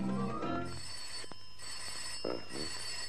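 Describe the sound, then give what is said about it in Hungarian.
A telephone rings with a steady, bright bell tone that holds through the moment, over a low murmur and a few faint clicks and knocks in the room. “Halló, doktor, forgásrendelő. Budapest van a telefonnál.”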